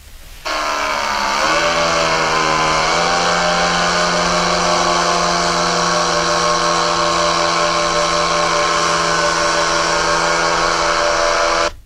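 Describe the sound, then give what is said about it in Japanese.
A small two-stroke paramotor engine, with a large propeller worn on the back for flying, starts up at a paramotor competition and drones loudly and steadily. Its buzzing pitch rises briefly around the start, then holds a constant harsh whine with propeller roar, no talk. “背中にあの、でっかいプロペラつけて飛ぶやつですね。 うん。で、その音を撮ってきましたということですよ。”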